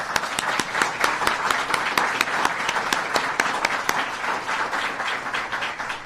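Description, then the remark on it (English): A crowd applauds steadily for a man with about 33 years of law enforcement experience, dense overlapping claps with sharp individual hand slaps standing out, sustained at an even loud level for the whole stretch with no talking. “And if we could start quickly, I'd like to give him a round of applause.”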